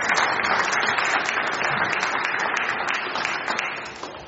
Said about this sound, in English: Thank you so much. Can we give a round of applause? Awesome.